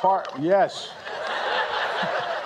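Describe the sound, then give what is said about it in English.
A turkey, one of two from North Carolina pardoned by the US president before Thanksgiving, lets out a short, loud, warbling gobble, then it fades into a steady background hum of a crowd or outdoor noise. “President Biden has officially pardoned 2 turkeys and saved them from becoming Thanksgiving dinner.”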